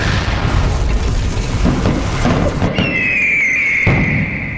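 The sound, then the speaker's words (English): Fireworks rumble and crackle loudly with dense low booms, then a shrill whistle rises over them and slowly slides down in pitch before cutting off. No one speaks. “It's pretty good. Fireworks.”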